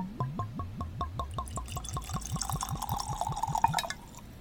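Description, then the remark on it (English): Wine from a freshly uncorked bottle glugs steadily into a glass in quick rhythmic pulses, the pitch climbing as the glass fills, clear with no talking, ending abruptly after about four seconds. “So let's pour something up”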